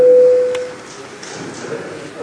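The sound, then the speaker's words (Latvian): A single steady electronic signal tone sounds loudly for about half a second in a parliament session as voting mode starts for a vote on the 48th proposal of the Education, Culture and Science Committee, then cuts off, leaving a hushed room with faint background murmur. “Lūdzu, balsošanas režīmu.”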